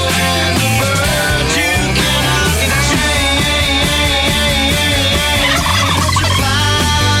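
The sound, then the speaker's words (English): Loud, continuous turkey gobbling fills the whole stretch, with warbling calls overlapping in a dense, busy chorus and no one talking. “This is supposed to be the big finale where the turkey jumps through the ring of fire.”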